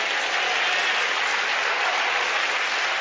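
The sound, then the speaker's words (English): A crowd applauds steadily, a dense, even wash of many hands clapping at once with no pauses, sustained at a consistent loud level throughout. “Keep clapping.”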